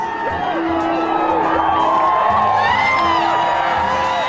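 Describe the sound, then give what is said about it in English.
A large crowd on a beach cheers and whoops continuously outdoors, with overlapping shouts and excited voices forming a loud, dense wash of sound that stays steady throughout, welcoming 64-year-old Diana Nyad as she staggers from the water after her swim from Cuba to Florida. “She staggered from the water with advice for a welcoming crowd on the beach.”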